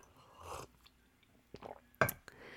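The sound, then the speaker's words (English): Mouth sounds of someone sipping water: a soft slurp, a couple of faint wet clicks, then a sharper swallow near the end, with no talking. “I got water. Let's have a sip.”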